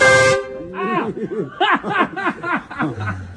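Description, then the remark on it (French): A loud, short truck horn blast blares at the very start in a small alley in Iran, then cuts off as people break into laughter and chuckling talk. “On se prend un gros klaxon dans la face.”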